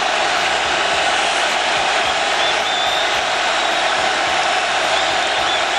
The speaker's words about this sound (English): Listen to that crowd.